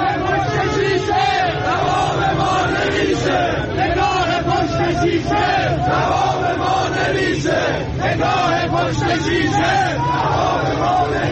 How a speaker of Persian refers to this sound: حالا اصلا مهم نیست که یه سری بازنشسته و کارگر زحمتکش اونور شهر دارن به عقب افتادن موفقاتشون اعتراض میکنن، نمیدونم یه سری مال باخته دیگه اونور جمع شدن جلوی دادگستری دارن شعار میدن اینجوری.